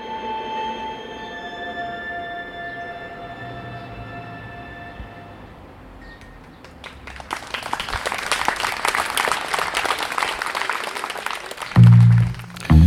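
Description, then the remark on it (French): Sustained musical tones fade out, then an audience bursts into loud, steady applause for children after their show, continuing for several seconds before a brief low thump near the end. “Pour les beaux applaudissements mérités pour les enfants”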